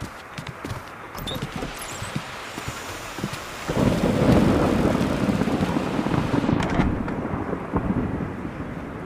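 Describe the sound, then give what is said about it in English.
A thunderstorm rages with steady rain and gusting wind, a deep rumble of thunder swelling in about halfway through and rolling on loudly before easing off near the end. “You can weather the storm for a bit, eh?”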